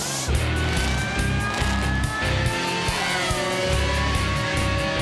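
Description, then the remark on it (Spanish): A racing car engine roars and revs, its pitch climbing and dropping as it speeds past, loud and steady over a thumping low rumble. “Ahora sí, damas y caballeros, los deportes motorizados.”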